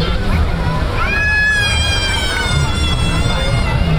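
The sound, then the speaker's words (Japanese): A young girl who has fallen down cries in a high, drawn-out wail that starts about a second in and holds steady, set against a constant wash of water and crowd noise. “あ、女の子転んじゃった。”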